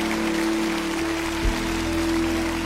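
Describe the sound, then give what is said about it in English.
A large crowd in Lakewood applauds and cheers steadily for people who are standing, a dense, continuous patter of many hands clapping, with a faint steady hum beneath and no one speaking. “They're still standing in Lakewood. Let's cheer them all in.”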